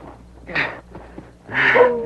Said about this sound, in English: You hear that, masked man? I do. That dog? Yeah, funny thing, ain't it? That's Blackie.